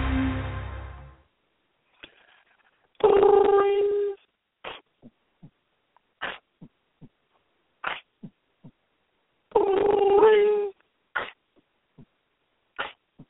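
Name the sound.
dog whimpering and yipping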